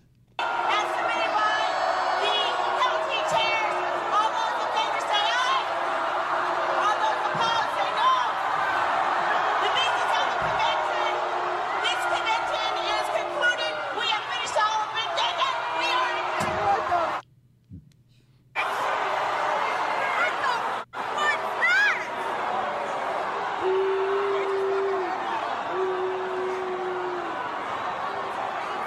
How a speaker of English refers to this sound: And people are screaming, no, no, no.